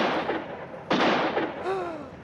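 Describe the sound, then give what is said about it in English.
A single loud, sharp gunshot that kills a man cracks out over a steady noisy background, followed by a brief wavering tonal sound as the noise continues. “They shot Lou. He's dead.”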